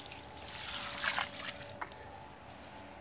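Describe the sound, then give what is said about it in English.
Water trickles and dribbles steadily as new Moses in the Cradle houseplants are watered, a soft continuous pour with a slightly stronger gush in the middle and a brief splash near the end. “Let's water these other new ones.”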